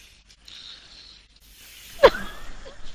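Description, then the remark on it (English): Someone breathes into a microphone: a soft, hissy exhale, then louder rough breathing with a sharp puff-like burst partway through. No one speaks. “Somebody's breathing into their microphone.”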